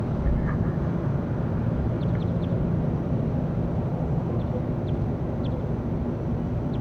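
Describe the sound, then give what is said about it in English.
A few faint, brief, high-pitched calls from bird number 35 sound sporadically over a loud, steady low rumble of background noise that fills the whole recording; no one speaks. “This is all bird 35 in the background.”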